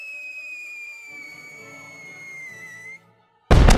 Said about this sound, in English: Fireworks. Colorful explosions filled the air around London.